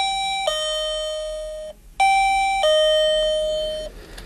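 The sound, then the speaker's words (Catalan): A sensor device left inside a dark room behind a door goes off as a loud electronic two-tone chime, a brief high note falling to a long lower one, played twice in a row with no voices. “Efectivament, nosaltres quatre érem en fora i a dintre d'aquella habitació, darrere la porta i a les fosques, es va disparar aquell aparell.”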